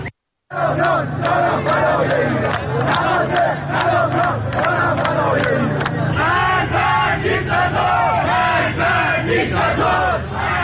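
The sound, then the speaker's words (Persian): A large crowd of protesters at the first roundabout of Gohardasht, Karaj, Iran, chants mostly political slogans together in loud, rhythmic bursts, many voices blending into a dense roar with sharp shouted accents rising above a low steady rumble. “معترضان در شهرهای تهران، شیراز، گوهردشت، کرج، قهدریجان، مشهد، اندیمشک و کرمانشاه در حال سر دادن شعارهایی با مضامین اغلب سیاسی مشاهده می‌شدند.”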